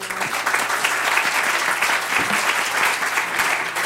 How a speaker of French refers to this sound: Merci, vous pouvez les applaudir.